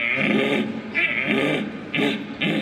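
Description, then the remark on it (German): At a stag-call imitation contest, a human voice with calling instruments imitates a red deer stag's rutting roar, a call duel of two equally strong stags at the height of the rut, with four deep, groaning bellows in quick succession, each loud and rough with a strained, throaty edge. “Besonders herausfordernd in diesem Jahr das Rufduell zweier gleich starker Hirsche auf dem Höhepunkt der Brunft.”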